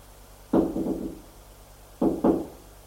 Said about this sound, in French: Va frapper à la porte de droite parce que c'est la seule qui a un nom.